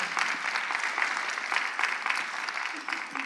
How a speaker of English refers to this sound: Oh, praise the Lord. That was a little... That was a little golf clap.